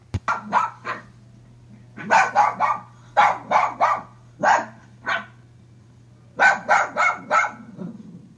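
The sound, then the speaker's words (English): A small dog barks in quick, sharp bursts of two to four yaps, pausing between each burst, with a steady low hum underneath and no talking. “If you want a small dog, this might be the one you want, Julia. And here's what it sounds like.”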